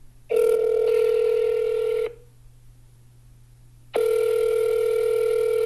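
telephone dialing and ringing

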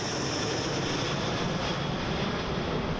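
airplane in flight

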